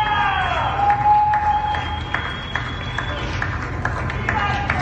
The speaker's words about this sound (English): Neighbors of Swedish Hospital's First Hill campus were banging pots and pans, raising their voices and clapping their hands in support of healthcare workers and other workers who are on the front lines right now.